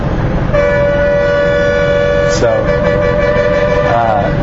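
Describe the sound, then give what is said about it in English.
Busy street traffic in Sri Lanka with a long, steady horn blast lasting several seconds over a constant rumble of engines, followed by a brief wavering horn near the end. “So I guess, can you guys hear I'm sure you can hear the nice Sri Lankan traffic and surrounding me.”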